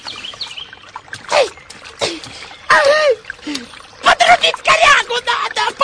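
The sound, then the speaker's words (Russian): Water splashes and sloshes in repeated bursts as an undressed man climbs into the water to help pull out a burbot, with chirping birds and faint voices mixed in. “Раздевшись, Андрей Андреевич дает себе остынуть и лезет в воду.”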